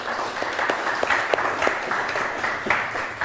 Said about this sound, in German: Ich würde vorschlagen, mal einen kleinen Applaus für die bisherige Präsentation.